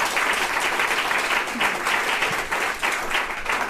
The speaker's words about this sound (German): Der Applaus war gerechtfertigt.